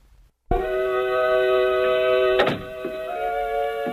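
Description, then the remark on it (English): The door to Mother's room opens with a sudden heavy thunk after a moment of silence, followed by a steady ringing tone and a second, softer clunk midway through. No one speaks. “The door to Mother's room is opening.”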